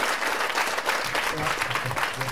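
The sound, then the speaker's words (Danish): A crowd claps steadily, a dense wash of applause filling the whole moment with no pause, while a faint voice seems to murmur beneath it toward the end. “Vi våger, det holder vi med i hænderne, og tager imod den kære publikums klappe selve.”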